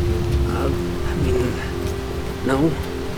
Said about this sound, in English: Once the rain started, the temp dropped a good 10 to 15 degrees, too.